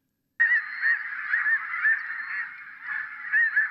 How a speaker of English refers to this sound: That wasn't any goose. That was the Wiley snow goose.